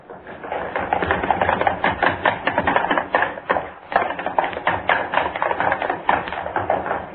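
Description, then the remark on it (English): Rapid, overlapping footfalls clatter continuously as three people run across a studio floor, up stair steps, stomp and run back down, loud with a dense, irregular drumming rhythm and no voices. “I want running footsteps, all three of you. Across the studio floor, up the stair steps. You stomp and run back down.”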